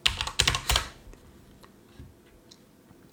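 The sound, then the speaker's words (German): Loud computer keyboard typing picked up by a microphone right at the keyboard: a quick burst of clacking keystrokes in the first second, followed by a few sparse, softer key taps in near silence. No one speaks. “Sorry, dass das Tipp immer so laut ist, ihr Lieben. Mein Mikro ist da direkt in der Tastatur.”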